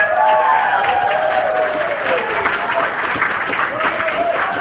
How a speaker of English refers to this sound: And please continue your applause for the parents of the groom,